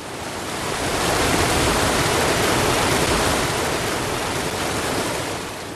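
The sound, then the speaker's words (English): The River Boyne, broad and deep, flows east with a steady, loud rushing wash of water, fading in at the start and easing off at the end, with no voices. “That river, broad and deep, moves ever east, past Nowth, Douth and Newgrange, under the Mary McAleese Bridge, through Drogheda, and meets the sea at Mornington.”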